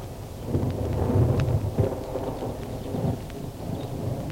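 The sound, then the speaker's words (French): A nighttime thunderstorm: deep, rolling thunder rumbles continuously over a steady hiss of falling rain, fairly loud, with no voices. “Par une nuit d'orage, la reine sortit de sa chambre en chemise de voile pour la nuit.”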